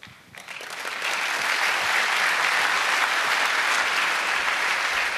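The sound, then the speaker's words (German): An audience bursts into applause, building quickly over the first second into steady, dense clapping that carries on without letup. No one speaks over it. “Genau, der Applaus stellvertretend auch an meine großartigen Kolleginnen”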